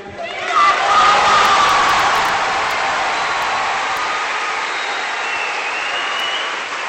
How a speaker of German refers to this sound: Der Minenhof von Castel Gandolfo ist es immer ein tosender Applaus, bei dem man sicherlich das eigene Wort gar nicht mehr versteht